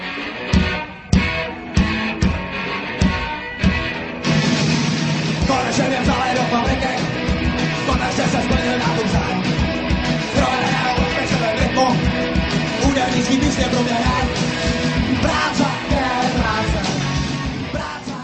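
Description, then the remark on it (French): A loud Czech punk rock song with a shouted chorus, "Práce je práce" (work is work): a few sharp, stop-start band hits open it, then distorted guitars and pounding drums drive on densely and without pause. “Práce je práce, práce je práce. Hurle le groupe punk tchèque … dans la chanson intitulée ….”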